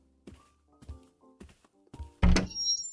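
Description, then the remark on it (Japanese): A few soft, muffled thumps, then a sharp loud clunk as the door of a VIP room shuts, followed by a brief ringing metallic rattle as it is locked. No voices. “ちゃんと鍵を閉めてっと。”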